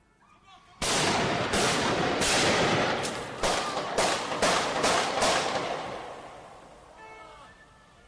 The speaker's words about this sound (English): So what you heard there was these two attackers getting out of their car, firing at the policeman being on the ground.